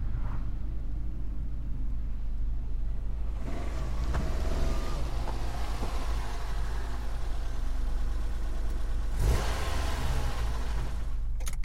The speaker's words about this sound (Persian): ماشین مقابل کوچه ای ایستاد.